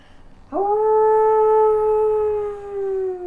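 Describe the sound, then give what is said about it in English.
A person imitates a wolf howl with their own voice: one long, sustained voiced note that starts abruptly and slowly sags in pitch, fairly loud, with no other talk. “I had this weird noise that I made. That was like a howl, but it was in my voice.”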